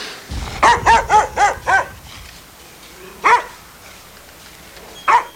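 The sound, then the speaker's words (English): A yellow-eyed half-wolf guard dog guarding Juma Beck and Kulban's ramshackle wooden house barks in a quick run of five sharp barks, then falls quiet before letting out two more single barks spaced a couple of seconds apart. “A yellow-eyed half-wolf guards Juma Beck and Kulban's ramshackle wooden house.”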